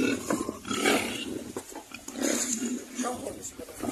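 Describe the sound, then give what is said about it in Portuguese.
A group of pigs sheltering on the roof of a house in a flood grunt and squeal in a rough, overlapping chorus as two men in a boat pass beside them, their voices talking over the animal noise throughout. “Nas redes sociais, um vídeo mostra quando dois homens num barco passam ao lado de um grupo de porcos que se abrigou no telhado de uma casa.”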